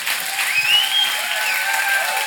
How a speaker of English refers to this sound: I love that young man up on the rope. Come on. Yeah, come on. Give him a hand clap.